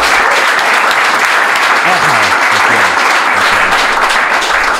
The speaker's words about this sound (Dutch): Mag ik een applaus voor de Prins van Liefde